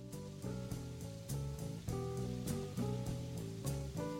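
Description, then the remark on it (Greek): A steady hiss of rain runs throughout, beneath a rhythmic musical backing of stepping tones and chords with regular beats. Nobody speaks. “Με το που είπα … έπιασε βροχή, παιδιά, τυχαίο δεν νομίζω.”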